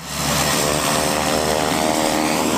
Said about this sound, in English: A PC-12 aircraft is taxiing off the Platinum runway. It was one of dozens of airplanes bringing in people from across the state to witness the ceremonial opening of the new processing plant.